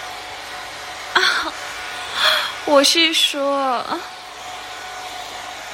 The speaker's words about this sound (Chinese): 吹风机的热风好舒服。